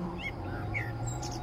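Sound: bird singing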